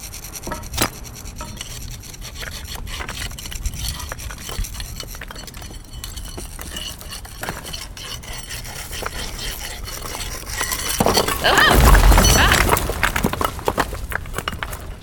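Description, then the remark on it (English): Irregular sharp taps and gritty scraping as cement is chipped away around bricks, swelling into a louder crunching rumble toward the end. No one speaks. “So if we just chip away at the cement around a few of them, knock out some of the bricks near the bottom, the pressure on the wall might be enough to do it.”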